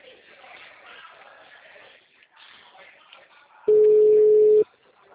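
telephone busy signal tones

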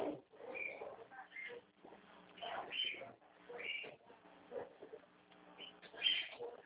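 bird singing

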